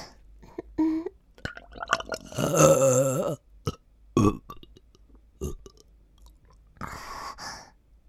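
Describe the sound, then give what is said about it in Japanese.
A long, loud, throaty burp rumbles for about a second, followed by a few shorter, softer gulping and breathy sounds with quiet pauses between them. No talking. “おちんぽ様のことを思っていたら、ギップが出てしまいましたわ。”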